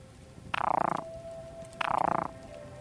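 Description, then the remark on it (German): Two loud, rattling frog croaks, each about half a second long and evenly spaced, with a faint steady tone lingering between them over a quiet outdoor background. “Blau gefärbt, dann der Frosch.”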